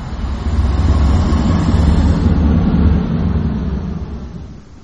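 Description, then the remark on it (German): Wind from a terrible storm roars over crashing sea waves, with water rising high at List, in a loud, continuous, rumbling wash of noise that holds steady, then slowly eases off toward the end. No voices are present. “Damals kam ein fürchterlicher Sturm auf und das Wasser stand so hoch, dass ganz List unterging, bis auf die Kirche und mein Haus.”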